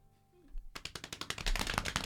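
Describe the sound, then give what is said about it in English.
A helicopter parked on a roof: its rotor chop bursts in after a brief quiet moment, a rapid, steady stream of loud, rough thumping pulses that keeps going to the end. “They parked a helicopter on the roof.”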